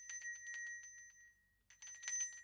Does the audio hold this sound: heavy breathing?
no